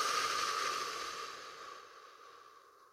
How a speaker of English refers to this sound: Take a deep breath in. Let's do it together. Breathing in through the nose. Big old deep breath. I know I'm a heavy breather.